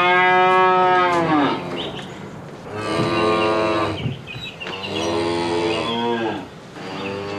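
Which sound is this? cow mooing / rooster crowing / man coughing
cow mooing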